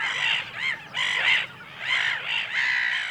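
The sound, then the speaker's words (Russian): Harsh, raspy bird calls ring out, about five loud squawking bursts in quick succession with brief gaps between them, and no voices. “Вот до чего довели здесь птицы порядочного зверя.”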